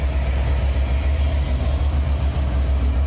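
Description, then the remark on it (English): A train's heavy, continuous rumble with railroad cars rolling past, from a video clip shared in tweets showing stolen Amazon packages thrown off the train, a steady low roar and mechanical clatter filling the whole stretch with no voices. “This is packages, as far as the eye can see, thrown off the train.”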